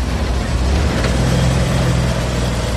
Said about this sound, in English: You said the truck is running? Is it running well? You can listen to it in the background.